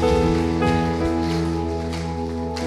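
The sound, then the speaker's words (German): A church audience applauds God during a worship service with steady, dense clapping that holds at an even level for the whole moment, blended with sustained, droning keyboard chords underneath. “Lass uns Gott doch mal einen Applaus geben, ihm die Ehre geben für das, wer er ist, das, was er in unserem Leben getan hat.”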